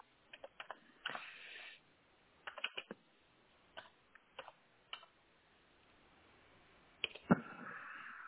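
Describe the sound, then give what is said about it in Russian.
Someone types a ping command into the Windows command prompt on a computer keyboard, in short irregular bursts of clicking keystrokes with brief pauses between them, ending with a few louder, sharper key presses. No voices are heard. “И также ping, P-I-N-G, пробел 4 восьмерки через точки.”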